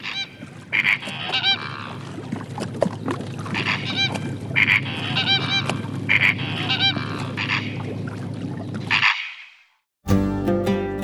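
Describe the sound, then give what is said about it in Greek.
Waterbirds call at the lagoons of the Amvrakikos Gulf in Greece, where pelicans, herons and flamingos live. They call in loud, nasal, honking bursts that repeat every second or so over a steady low rumble. No one speaks. The calls stop abruptly near the end. “Οι πελεκάνοι, οι αεροδίοι και τα φλαμίγκο χαρίζουν μοναδικές εικόνες σε όσους επιλέγουν μια βόλτα με σκάφος ή μια ήρεμη περιήγηση στις όχθες του κόλπου.”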